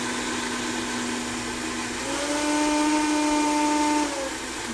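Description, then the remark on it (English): A Vitamix blender motor runs steadily, mixing chocolatey ingredients just long enough to incorporate them, with a loud whirring hum that rises in pitch midway as it speeds up, then eases slightly near the end; no one talks. “So we're gonna add this to our Vitamix blender bowl. So we're gonna turn this on.”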